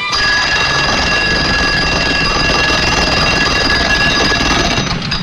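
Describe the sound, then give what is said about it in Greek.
A loud, continuous mechanical alarm clock ring, its bell clattering rapidly without pause for several seconds, harsh with a bright metallic edge. “Της Κυριακής τα γλυκά όνειρα δεν τα διακόπτουν τα ξυπνητήρια.”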